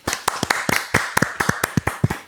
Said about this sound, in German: Okay, Applaus für die Kapitelmarken.